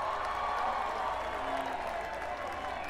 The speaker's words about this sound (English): Golf clap, golf clap.